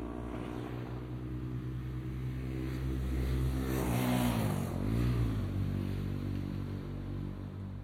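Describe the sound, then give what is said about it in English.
A motorbike engine revs as it passes by, its whining pitch climbing then sliding down as it goes, loudest midway before fading out. No one speaks. “Great sound, that motorbike.”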